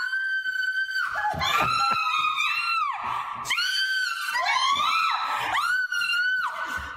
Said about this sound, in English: So she's speaking multiple syllables. Wow. Those are the words of a panicked woman. Okay. You know, spiders. Are you getting it? Are you getting it? Are you getting it? Yeah. There's the scream from the spider.